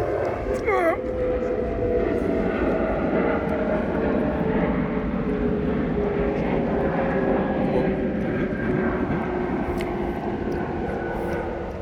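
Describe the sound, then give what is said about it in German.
A loud, steady airplane roar fills the whole stretch, a broad low rumble with a faint whine on top that shifts slowly in pitch as it passes overhead. “Oh, ein Flugzeug.”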